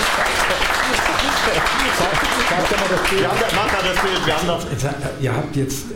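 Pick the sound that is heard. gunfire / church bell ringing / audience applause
audience applause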